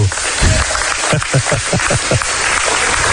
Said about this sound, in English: Grace 10 gets a nice round of applause.